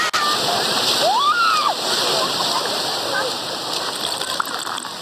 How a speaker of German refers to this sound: Wer würde jetzt nicht gerne am Strand liegen, den Wellen lauschen und einen leckeren Cocktail schlürfen?